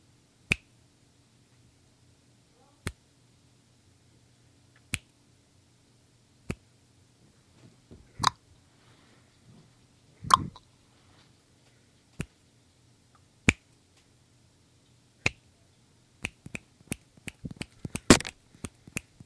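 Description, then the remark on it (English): Crisp finger snaps ring out alone, evenly spaced at first with long pauses between, then quickening into a rapid, irregular flurry of sharp snaps and clicks near the end over a faint low hum. “and I guess he wanted to show us his snapping and noise-making prowess.”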